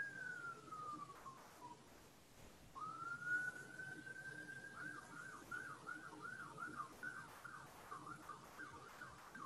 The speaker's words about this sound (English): I hear the sound of sirens where I am sitting. It's always a sign to me that someone is suffering right now.